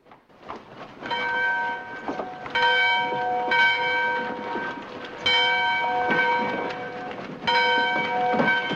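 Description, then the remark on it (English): A bell rings out loudly again and again, each clang followed by a sustained metallic ring, struck at an uneven pace over a busy low rumble of background noise. “At the sound of the ringing bell, the townsfolk scurry into action and the civilians in the bank hurry out.”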